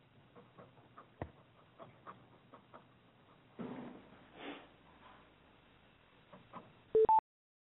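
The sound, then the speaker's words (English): A conference call sign-on beep as participants check in just after 10: two quick, loud electronic tones, rising in pitch, sound at the very end after several seconds of faint breathing, rustling and line noise with no talking. “It's just a couple of minutes after 10, and people are checking in, and I hear beeps.”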